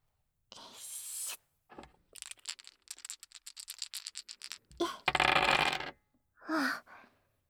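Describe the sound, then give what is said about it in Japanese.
Three dice rattle and tumble on the right side, a quick train of small clattering clicks as they bounce and settle on 2, 3 and 1, framed by brief rustling and shuffling sounds before and after. “今度は、右からサイコロです。”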